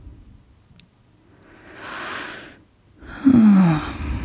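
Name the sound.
deep slow breathing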